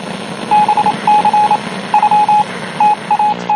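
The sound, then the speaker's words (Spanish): Morse code beeps from a 1960s radio broadcast, a string of alphanumeric codes: a steady tone keyed in short and long pulses in uneven groups, heard against a hissy, crackling background of static. “Pero es claramente un mensaje en código Morse.”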